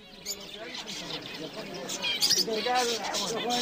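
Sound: birds chirping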